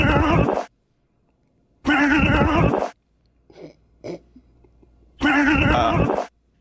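Mike Tyson, sprinting, lets out three loud, strained grunting bursts, each about a second long, with short breathy pants and gasps in the quieter gaps between them.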